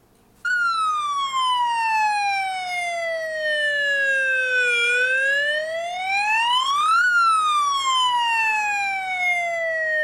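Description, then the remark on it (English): A loud siren wails alone, its pitch sliding slowly down, then sweeping up and falling again in a long continuous rise-and-fall tone with strong harmonics, steady throughout. “Ah, the siren sound.”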